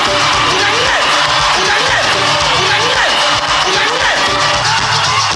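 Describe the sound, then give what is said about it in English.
A loud, dense crowd roars with cheering, whoops and shouts, sustained without pause, with rising yells cutting through a constant wall of noise, as fan clubs cheer the contestants introducing themselves on stage at the 17th Miss Cameroon finale. “Seven in number and representing all 10 regions of the country, the contestants introduced themselves amid enthusiastic cheers from their fan clubs and the First Lady”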